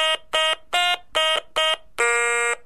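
Stylophone played with its wired stylus pressed onto the keys: five short, buzzy electronic notes in a quick, even rhythm, then one longer held note at a slightly lower pitch, fairly loud and with no talking.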